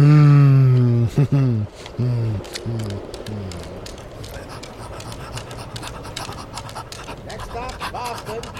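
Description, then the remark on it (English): A voice lets out a drawn-out groan, then breaks into heavy, rapid panting: loud, rhythmic huffs of breath that continue steadily to the end. “Stop breathing it on me if you don't mind.”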